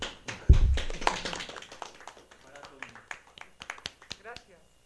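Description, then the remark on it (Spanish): Short burst of applause from a small group: irregular, crisp hand claps after a heavy thump, growing sparser and quieter over about four seconds, with murmured voices beneath. “Un aplauso.”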